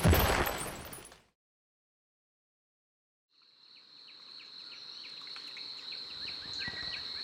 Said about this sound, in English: In the distance, you can hear the gunfire erupting, the bombs and the grenades. There's a battle near here, rebels versus elites.